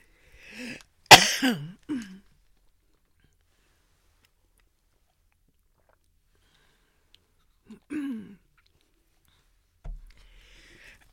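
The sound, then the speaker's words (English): A burst of harsh coughing, muffled into a shirt, followed by long silence, then another short cough and a faint rustle near the end. “I'm coughing into my shirt”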